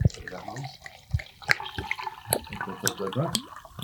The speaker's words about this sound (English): Do you want me to pour some water? Well, I'm just slightly struggling with only having two hands. Two hands right and one out. On a mic. Yeah. I'm starting off with giving you an impossible task of... But look, we've achieved it. Filling your water.